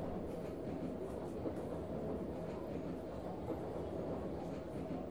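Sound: train interior ambience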